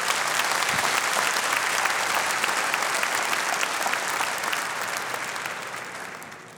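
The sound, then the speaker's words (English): A crowd applauds steadily, a dense wash of many hands clapping at once, holding strong for several seconds before gradually easing off toward the end. “Yeah, you can clap.”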